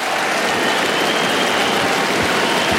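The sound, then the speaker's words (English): A large crowd at a tennis match applauds loudly and steadily after a player wins a point with a bounce smash, a dense wash of clapping that holds at full strength for the whole few seconds without fading, and no voices come through. “And quite rightly getting a big round of applause for that one and raising his fist, just getting the crowd into it.”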